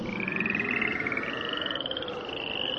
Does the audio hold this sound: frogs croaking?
yes